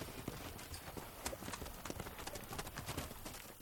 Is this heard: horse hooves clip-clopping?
yes